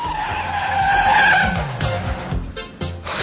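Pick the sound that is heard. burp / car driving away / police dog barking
car driving away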